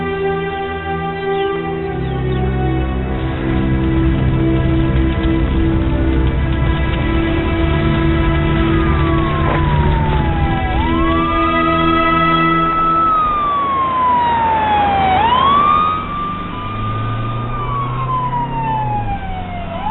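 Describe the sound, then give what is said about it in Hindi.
An ambulance siren wails loudly, its pitch sweeping up and down in long glides over a heavy, rumbling engine drone, with no voices present. “आप कहाँ? एम्बुलेंस में।”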